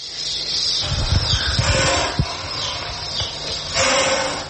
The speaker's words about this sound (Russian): Змея.